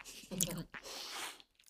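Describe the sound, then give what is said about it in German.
Wet mouth sounds of someone chewing and sucking on a small piece of cheese, crushing it with the tongue against the palate, with a brief smacking burst followed by softer squishy, slurping noises. “dann nimmst du ein kleines Stück und zerdrückst es mit der Zunge oben am Gaumen”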